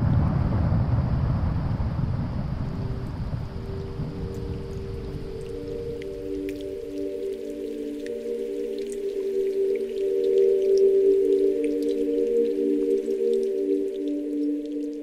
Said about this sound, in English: There are incredibly low, booming sounds, very, very powerful. Some of the most powerful sounds I've heard, they sound like jet engines up close as these large pieces of ice calve and fall.